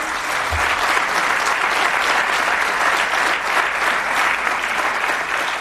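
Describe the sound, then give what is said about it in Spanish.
Sustained audience applause, a dense, steady wash of many hands clapping at an even loudness for several seconds, with no voices standing out. “Esto sí que se merece un aplauso, de verdad.”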